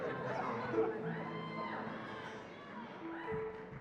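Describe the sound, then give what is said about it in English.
A dense crowd at a live music performance murmurs and chatters throughout, with a couple of rising, drawn-out shouts from someone in the crowd cutting above the noise, the first in the middle and another near the end. “How's someone screaming, come on, do it?”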